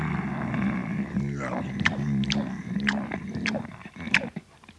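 A wolf's low, rumbling growls run under wet, crunching chewing and a handful of sharp biting snaps as it devours its meal, loud and steady before easing off at the end; the big bad wolf eating Little Red Riding Hood in the fairy tale.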